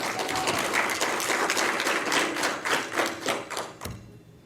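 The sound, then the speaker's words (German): An audience applauds Hackwerk Aalen, a dense wash of many hands clapping at a steady level, then tapering off near the end with a few last claps. “Dafür bitte einen Applaus ans Hackwerk Aalen.”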